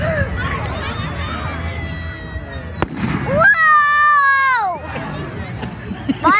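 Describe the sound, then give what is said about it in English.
Fireworks whistle upward in shrill rising tones during a 25-minute fireworks display, with a sharp bang bursting midway, while a crowd murmurs and chatters throughout. “We forget that there's people that have never seen a fireworks display before, you know?”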